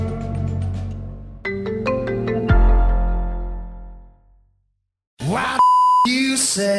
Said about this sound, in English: It's Friday the 13th, and I feel like Kevin's been using the beep button all day, actually.